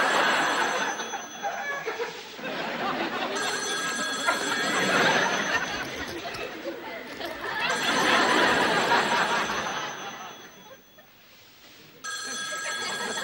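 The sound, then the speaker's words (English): A telephone bell rings repeatedly in steady, prominent bursts, with muffled rustling and faint chuckling underneath. “Too bad you didn't get the sleeping bag with the phone in it.”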